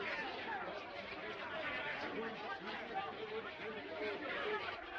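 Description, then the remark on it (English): A steady murmur of many voices from a gathering town procession passing under an archway, a dense crowd babble with no single clear speaker, holding an even level throughout with occasional louder swells. “The gathering procession passes under an archway. People look down from windows.”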